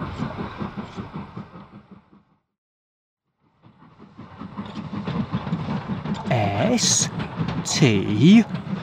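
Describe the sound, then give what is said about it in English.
A train rumbles steadily, cuts out briefly into silence, then returns louder with rising and falling squeals or voices over the continuous clatter. “She's next to my train again.”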